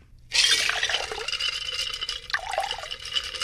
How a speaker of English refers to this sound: So we have 2 slices of lime muddled that have been quartered. We've got 1/2 ounce of lime juice, about 1/4 ounce of simple syrup, 2 ounces of light rum. And I'm going to take that. Again, I'm going to strain it into a rocks glass.